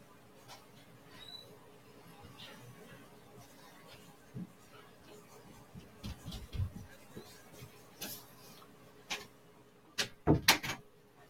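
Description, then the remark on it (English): A door is unlocked and opened: a few scattered clicks and soft thuds, then a cluster of sharp, loud metallic clacks near the end, with faint room noise beneath. “Door was locked.”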